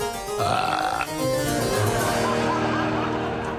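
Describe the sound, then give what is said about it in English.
A big, drawn-out burp rumbles loudly for several seconds, deep and gravelly with a slight wavering pitch, standing alone with no talking around it. “And coming up now, a big burp.”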